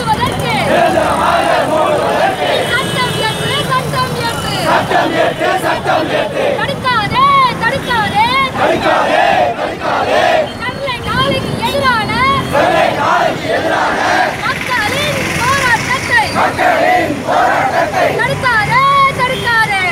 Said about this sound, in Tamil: மக்கள் அதிகாரம் சார்பில் பல்வேறு கட்சிகள் இயக்கங்களின் பங்களிப்புடன் ஸ்டெர்லைட் ஆலையை நிரந்தரமாக மூட தனிச்சட்டம் இயற்றக்கோரி சென்னை, மதுரை, திருச்சி, கோவை, விழுப்புரம், விருத்தாச்சலம் மற்றும் தமிழகத்தின் பல பகுதிகளில் ஆர்ப்பாட்டம் நடத்தப்பட்டது.